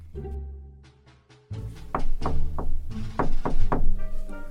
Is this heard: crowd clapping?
no